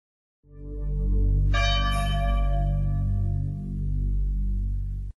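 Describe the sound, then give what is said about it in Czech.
A deep church bell tolls mournfully for the dead King of Yugoslavia, its low booming hum joined by a brighter, ringing strike that swells and slowly fades, loud and resonant with no voices. “A taj lelek i zvonjenje tužnih zvona prenećemo duh kroz srca miliona.”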